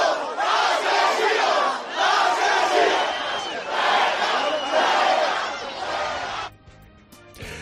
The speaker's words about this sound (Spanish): Y luego los gritos de asesinos o fuera, fuera se convirtieron en lanzamiento de barro y de algunos objetos.